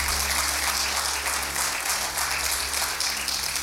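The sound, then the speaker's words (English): A church audience claps in sustained applause to receive the word of the Lord, a dense, steady wash of many hands without distinct beats, holding at a fairly loud level for a few seconds with a low hum underneath. “Good place to clap and receive the word of the Lord.”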